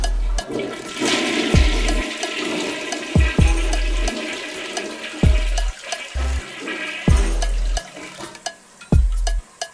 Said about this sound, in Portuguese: Não merece resposta, apenas dou descarga. Elimino porque é bosta.